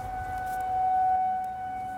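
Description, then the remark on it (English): A tornado siren sounds in a morning test, wailing with a steady, sustained tone over low background rumble, swelling slightly in the middle. No one speaks. “They would bring it up and be like, oh, tornado siren, like this morning, don't freak out.”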